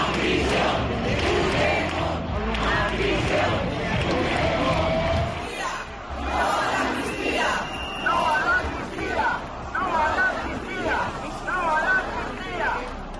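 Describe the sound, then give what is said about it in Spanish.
A large crowd at a civic protest in a Plaza Mayor shouts and cheers, calling for Pedro Sánchez's resignation or Puigdemont's imprisonment, in a dense, continuous roar, with rhythmic chanting bursts rising and falling throughout, and a deeper rumble dropping away partway through. “Y entre esos vítores”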